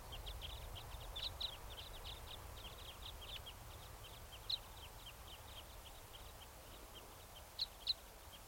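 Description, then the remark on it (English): A flock of five birds of call type five takes off, giving a steady stream of short, high chirping calls, with a few louder, sharper notes standing out over a low background rumble. “That flock of five type fives just took off.”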